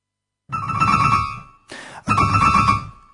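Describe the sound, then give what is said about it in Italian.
A telephone rings loudly with a bright, trilling bell tone, two long bursts separated by a short pause. There is no talking. “Dunque, diciamo che la serata di Veronica è iniziata con una telefonata.”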